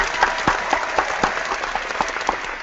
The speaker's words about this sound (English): and I want to give a big round of applause.